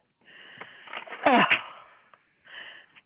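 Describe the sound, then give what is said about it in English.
A single sneeze: a breathy intake builds into a sharp, noisy burst, followed after a brief pause by a softer, shorter sniff. “Bless you.”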